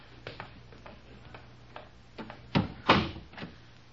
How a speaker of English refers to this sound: Now, you go first. I'll close the door after me.